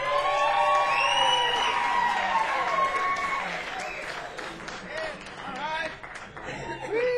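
A crowd claps and cheers loudly, with whoops and high shouts rising over dense, steady applause that gradually thins toward the end before swelling again.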